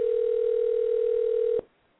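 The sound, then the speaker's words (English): A telephone ringing tone: one steady, mid-pitched electronic hum holds evenly for about a second and a half, then cuts off abruptly into faint line hiss. No voices. “You know who's calling.”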